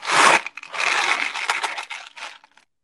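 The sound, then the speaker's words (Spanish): A loud burst of dry, gritty rattling as tiny hard Nerds candies pour and shift inside a box, followed by a longer, uneven sandy shuffle that trails off, with no talking. “No es un palo de lluvia, son unos caramelitos que se llaman Nerd.”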